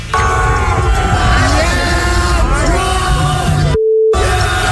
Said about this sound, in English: what could have possibly gone down at a … concert that would lead to their own fans booing them?